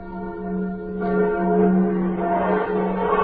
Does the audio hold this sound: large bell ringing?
yes